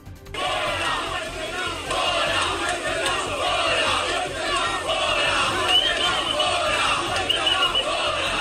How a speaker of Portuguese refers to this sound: Em Benguela, vítimas das enxurradas culpam o governo e vaiam o governador.